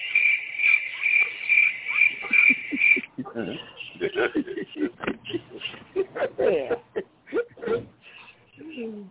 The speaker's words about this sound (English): Sound like I hear some crickets. I hear some crickets.